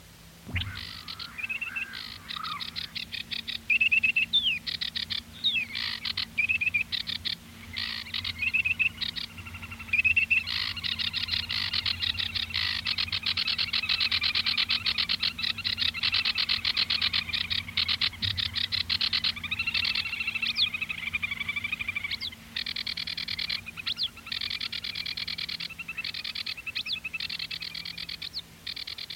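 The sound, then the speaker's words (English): A marsh warbler sings a busy, unbroken stream of chattering and whistled phrases, fairly loud, over a steady chorus of croaking frogs in a marsh in France. “sitting in a marsh, listening particularly to La Roussarole effarvette, which is a marsh warbler. And I'm playing from the district where he lived, a piece of recorded in France of this bird and a couple of other birds.”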